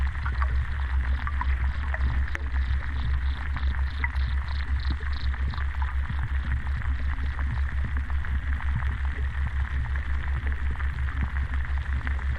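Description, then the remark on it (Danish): Underwater ambience from a hydrophone in a lake lying between two bunkers: a steady, heavy low rumble beneath constant watery hiss, with a faint run of rhythmic ticking pulses early on and no voices. “En undervandsmikrofon. Og så den opfanger de lyde, der er under vandet.”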